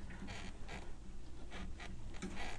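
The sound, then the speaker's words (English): A stiff dryer motor creaks and grinds as it is slowly turned by hand by its fan blades, with the front of the dryer taken apart, repeated scraping bursts in an uneven rhythm against a steady low hum. “That motor is some stiff, all right.”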